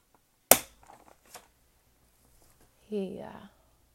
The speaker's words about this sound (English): I'm just moving some sheet music over here and some clicking of my binder because I'm going to play another song.